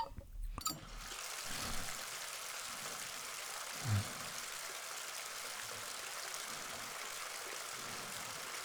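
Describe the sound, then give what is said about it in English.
Water pours steadily into a bathtub that can seat two people, a continuous rushing hiss that starts after a brief pause and runs unbroken, with a faint low thump partway through and no voices. “So water temperature okay?”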